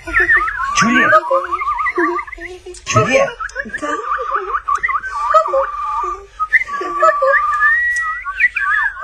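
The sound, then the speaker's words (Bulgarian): Someone whistles a warbling imitation of birdsong, fairly loud, with quick sliding trills and chirps that run almost continuously for several seconds. “защото може да ти изглеждам старомоден, но песента на птиците, рючиите и пчеличките е много по-хубава от вашите тенекиени пластмасови танкови ракети с разните им так-так-так и бум-бум-бум.”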